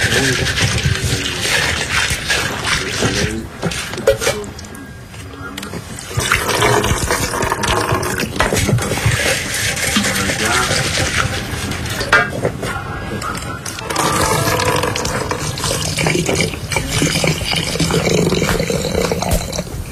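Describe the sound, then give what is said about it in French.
A terracotta coffee maker set on a small stove brews with a loud, continuous gurgling and hissing roar, bubbling steadily with a couple of brief lulls before surging again; no one speaks. “Une cafetière en terre cuite.”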